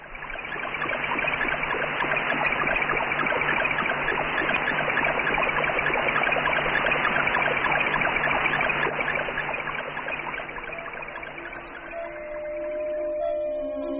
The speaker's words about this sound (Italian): Provate a chiudere gli occhi e ad ascoltare l'Explorer 15. Non avete anche voi la sensazione di essere in riva a un ruscello?